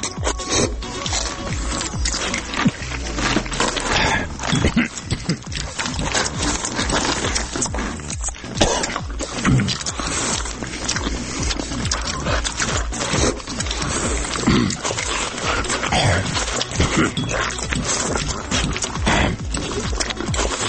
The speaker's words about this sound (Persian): الان مثلا شما اینو گوش کنین صدای غذا خوردن من